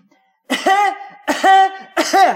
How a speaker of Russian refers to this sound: А ты притворись, что у тебя приступ кашля. Ну, вот так.